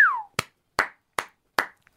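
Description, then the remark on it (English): A short falling whistle-like tone gives way to four sharp hand claps in an even, steady rhythm, each crisp and fairly loud, followed by a faint tiny tap. “That'll go with the clap.”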